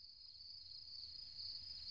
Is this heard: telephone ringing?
no